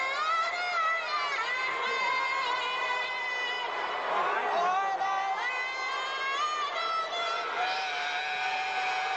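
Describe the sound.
A large crowd boos loudly and continuously, a dense wall of many overlapping voices holding long, wavering tones that swell slightly midway and never let up.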